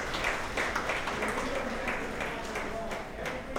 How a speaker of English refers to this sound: Members of his staff ushered the press out of the room at the Aloft Hotel before Hall spoke to only staff and supporters, who could be heard applauding through the door.